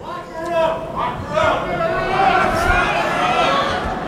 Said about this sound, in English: And in case you didn't understand that, that was the lock her up chant.